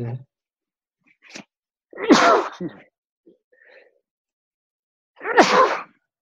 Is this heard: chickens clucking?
no